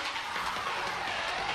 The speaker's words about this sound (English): Dade County, Florida, in a yellow house, a boy plays a computer racing car game.